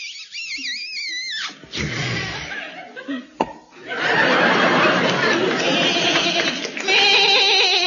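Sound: goat bleating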